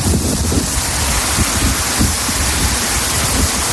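Heavy rain pours down steadily in a dense, continuous hiss with low rumbling underneath, loud throughout, with no voices; early-morning rain during a storm in the streets of Santiago.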